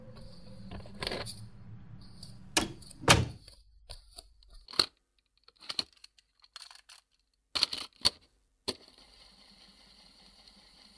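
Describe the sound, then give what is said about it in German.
A series of sharp mechanical clicks and clunks as a cassette recorder is handled, opened and the cassette flipped, followed by a steady, faint whirring hiss as the tape rewinds. “Sollten Sie mit dem Quatsch nicht aufhören, werde ich die Polizei Was ist das denn? Umdrehen, zurückspulen?”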